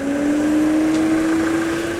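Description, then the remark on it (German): The loud engine of a large white vehicle drones steadily throughout, its pitch creeping slightly upward as it drives past, with a constant rumble underneath and no voices. “Herrgott, nochmal, muss der jetzt hier langfahren? Muss der so laut sein dabei?”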